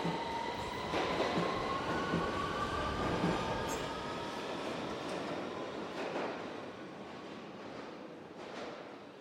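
A London Underground train at rush hour runs steadily along the rails with a continuous rumble, thin metallic wheel squeal drawn out over it and a few faint clacks; nobody speaks.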